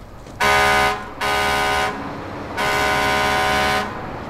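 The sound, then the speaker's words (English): A lorry pulling up on the street sounds its horn in three loud blasts, two short honks followed by a longer one, over a low background rumble. “A lorry pulls up on the street.”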